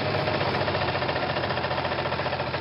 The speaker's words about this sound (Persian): چی میگی؟ صدا تو نمیشنوم. از بس موتور اوس محمود قارقار میکنه.